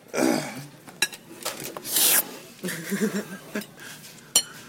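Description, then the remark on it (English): Metal cutlery clinks and scrapes against dishes in an irregular series of sharp taps, with a couple of louder clanks and a brief harsh scrape, while faint chewing and mouth sounds fill the gaps. “I'm still eating. As I eat my food.”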